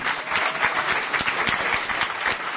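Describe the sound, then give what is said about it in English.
An audience claps together in sustained applause, a dense steady patter of many hands at moderate loudness, with no voices standing out. “If you feel like you've compressed the time frame this week, just a round of applause.”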